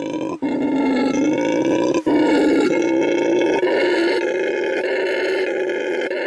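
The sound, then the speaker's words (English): A red howler monkey perched in a tree at a sanctuary in Bolivia lets out a continuous, loud, deep roaring howl that drones on with only brief breaks for breath, filling the whole stretch. “This is the noise that this monkey makes. It's called a howler monkey. And it's actually called the red howler monkey.”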